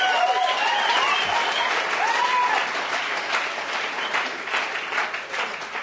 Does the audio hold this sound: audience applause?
yes